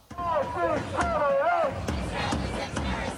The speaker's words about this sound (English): Sydneysiders have gathered in large numbers at the city's central district, raising their voices in unison to demand justice for Gaza. The crowd, undeterred by rain and sun, is calling for urgent international attention.